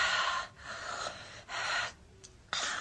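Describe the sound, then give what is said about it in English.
A woman breathes heavily, with several loud, breathy inhales and exhales in an uneven rhythm, with no talking. “This is where her breathing gets heavier.”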